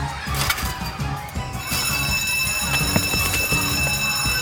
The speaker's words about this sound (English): Hey, Slimes! That was the bell! We gotta go! Come on! Recess is over!